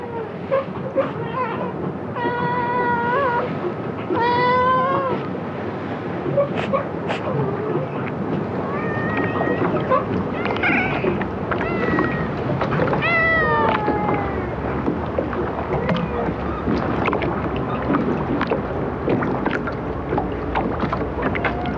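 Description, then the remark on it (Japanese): Three plump cats, a parent and its young, meow repeatedly at Takeura fishing port, their high, wavering calls rising over steady wind and lapping water at the harbor. “まるまると太った親子猫3匹が出迎えてくれました。”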